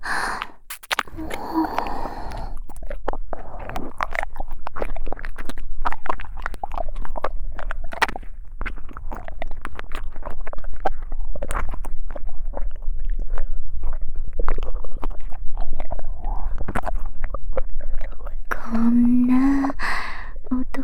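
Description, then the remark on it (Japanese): Wet mouth sounds of ASMR ear licking, with dense smacks, slurps and soft clicks in a continuous irregular rhythm, interrupted near the end by a brief breathy hum. “私は、こっちのお耳、舐めちゃうよ。”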